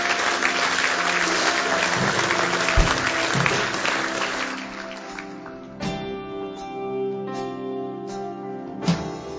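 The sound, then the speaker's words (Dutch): An audience bursts into loud, sustained applause welcoming the people who raised their hands, fading after about five seconds as steady keyboard chords and soft music rise underneath. “Zullen we de mensen die hun hand hebben opgestoken verwelkomen met een groot applaus.”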